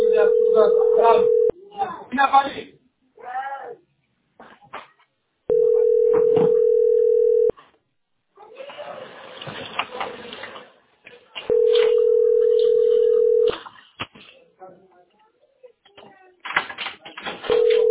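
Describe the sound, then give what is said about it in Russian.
Steady mid-pitched ringback tones on a phone line, each lasting about two seconds and repeating every few seconds, with muffled talking and line noise filling the gaps between them. “Вот, гудки.”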